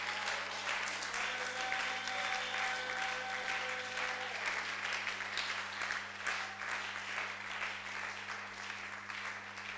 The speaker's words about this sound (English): Oh, come on, clap, clap for the Lord.